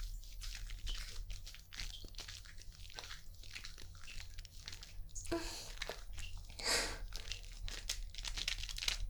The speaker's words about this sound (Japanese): 聞こえるかな、泡の感じの音。